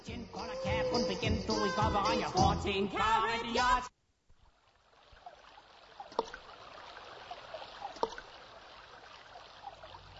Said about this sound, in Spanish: En Uruguay no hay un solo rincón que no sea bendecido por el agua. Centenares de arroyos y de ríos, miles de pequeñas corrientes.